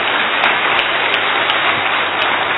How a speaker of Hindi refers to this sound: हाँ, भले जोर से अपने लिए ताली बजाओ, क्यों नहीं बजाओ।